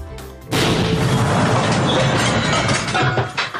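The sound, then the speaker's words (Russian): A sudden, loud explosion at a café, which killed the leader of a militant group, bursts in after a brief quieter moment, followed by a sustained roaring rumble that fades toward the end. No voices are heard. “канал «Россия-1» спустя месяц после гибели лидера группировки ДНР показал с разных ракурсов этот взрыв”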